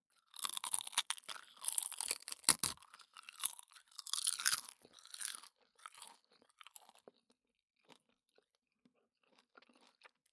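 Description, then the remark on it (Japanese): Crisp crunching of dried nori seaweed being bitten and chewed, a burst of dense crackly bites for about five seconds, then sparser chews and small crackles fading out. No talking. “何より私さっきからバリバリ食べてるけど、これでなんと14キロカロリー、素晴らしいでしょ、海苔って。”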